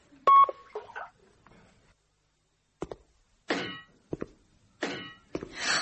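A short, clear electronic telephone beep signalling a call waiting, followed by a few scattered clunks and clicks like a handset being handled and buttons pressed. No one speaks.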